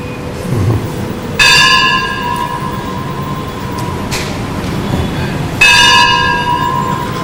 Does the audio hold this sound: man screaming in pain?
no